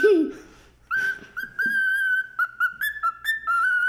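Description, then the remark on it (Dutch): A pet budgerigar named Buk whistles a tune: a string of bright, clear notes, some held and some short and choppy, rising and dipping in pitch after a brief low sound at the start. “Een vogel, dat is mijn vogelparkiet.”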